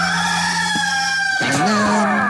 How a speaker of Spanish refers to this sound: ¡Este es el gallo!